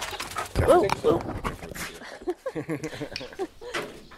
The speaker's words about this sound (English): You're okay with dogs, no? He has a couple of big German shepherds. You can hear one of them jumping into my mic.